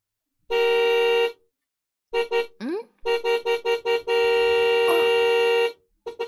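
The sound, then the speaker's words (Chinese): The horn of an old, worn, borrowed car honks repeatedly and loudly, sounded by the father returning with it: a long blast, a run of quick short toots, then another long sustained blast followed by a final brief beep. “儿子， 儿子，快出去看一下，应该是你爸在按喇叭呢。”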